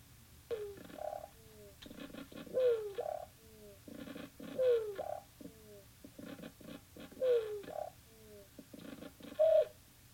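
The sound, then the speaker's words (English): Leafhopper vibrational signals on a plant: phrases repeating about every two seconds, each mixing buzzy pulses with whiny, downward-sliding tones, over a steady low hum. No one speaks. “So just for a second here, let's take a listen to the sound leafhoppers make vibrating a plant.”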